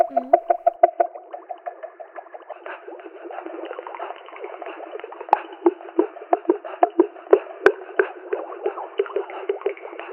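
Water bubbles and gurgles in a steady stream of quick, wet pops, with a brief sweeping tone at the start and a few sharper clicks and splashes later. No one speaks.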